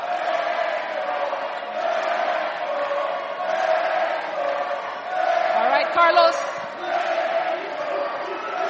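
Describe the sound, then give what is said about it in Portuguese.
At a BAL trophy celebration, a dense crowd roars and shouts for Petro steadily for several seconds, voices blending into a continuous triumphant din with swells of louder cheering and a brief sharp whistle-like rise near the end. “Estamos a ouvir os gritos pelo Petro.”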